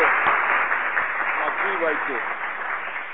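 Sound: round of applause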